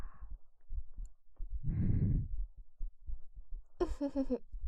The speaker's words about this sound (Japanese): 私たちの心音が聞こえますか？